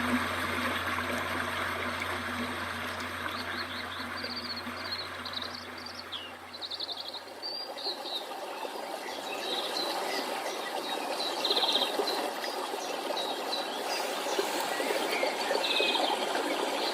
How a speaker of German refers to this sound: Und die Tropfen werden zu einem kleinen Rinnsal und dringen aus der Tiefe des Berges wieder ans Licht.